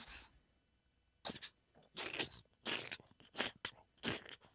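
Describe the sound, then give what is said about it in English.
A voice imitates a man walking through snow after pulling up on a dog sled: a series of about six breathy, crackling bursts in a loose walking rhythm, fairly loud, following a faint hiss at the start. “Right, he pulls up, and then he gets out, and then he's walking through the snow, crunching through the snow.”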